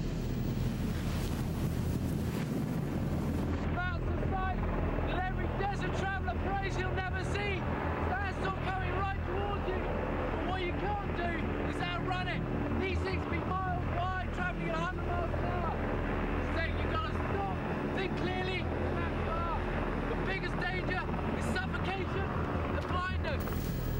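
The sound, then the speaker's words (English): Large fans fire up after an engine is started, becoming a loud, steady rush of blowing air with a gusty, wind-like texture as a dust-filled cloud forms. Indistinct voices can be heard beneath the noise. “Okay, start the engine. The fans fire up, and within seconds, a choking dust-filled cloud starts to form.”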